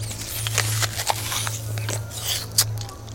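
Crisp crunches of someone biting into and chewing a fresh apple, a string of irregular juicy snaps over a low, steady background hum.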